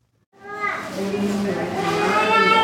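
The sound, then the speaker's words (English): Lively voices of toddlers fill the waiting room of the Esperanza Health Center in Little Village, southwest Chicago, at noon: high-pitched chatter and squeals rising steadily over a murmur of background activity, continuous. “Toddlers bounced nearly out of their parents' laps in the waiting room.”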